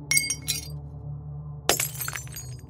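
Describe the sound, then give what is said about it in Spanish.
Drinking glasses in a kitchen fall by themselves and shatter at about 3 in the morning, in two bursts: bright clinks early on, then a louder smash around the middle followed by scattered tinkling shards, over a steady low hum. “Me asomé por un pequeño espacio entre la puerta y la pared, viendo cómo los vasos empezaban a caer solos.”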